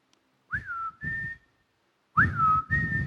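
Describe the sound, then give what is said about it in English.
A person whistles a short two-part family call, a swooping note followed by a steady held tone, then repeats it after a brief pause. The whistling is fairly loud. “We have a family whistle.”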